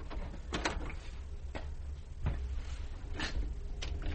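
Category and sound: household object, door opening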